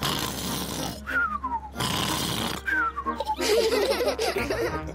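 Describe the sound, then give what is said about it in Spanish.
A voice imitates Uncle Pig's loud snoring after lunch: rough, noisy snorts alternate with high whistling exhales that slide downward, repeating about three times, ending in a wobbly, fluttering whistle. “Y ronca muy fuerte, así.”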